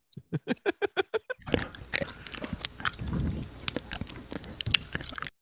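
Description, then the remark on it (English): Amplified chewing and eating noises edited together: a quick run of evenly spaced wet bites, then continuous squelchy, crunchy mastication with sharp clicks and smacks, loud. “it's like a cow eating grass.”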